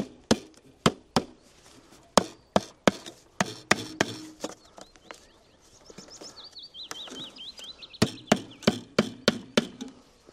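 Sharp hammer blows on wood land in irregular bursts, pausing for a few seconds midway while a bird chirps and warbles in the background before the pounding resumes.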